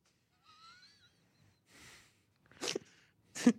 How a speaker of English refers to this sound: What a demure sneeze you have for such a large, tall man. There's different levels. Sometimes I'm really loud.